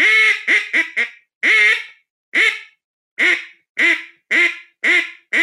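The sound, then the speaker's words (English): An Iverson duck call is blown, imitating quacks: a quick run of four short quacks, then a string of longer, evenly spaced nasal quacks, loud and with no talking. “That's my Iverson duck call.”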